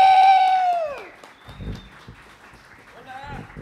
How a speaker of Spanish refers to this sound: Un aplauso, güey, para el invitado, por favor, otra vez.